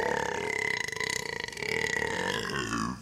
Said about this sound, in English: More burps.